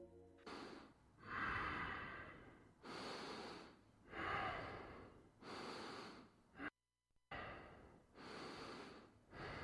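A woman breathes heavily while asleep, in a recording made a couple of years earlier: slow, steady cycles of noisy, slightly snorting inhales and exhales, about six in all, with one brief silent break.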